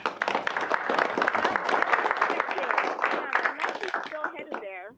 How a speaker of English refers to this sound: Even though you're on the phone, we applaud you and give you a big round of hand.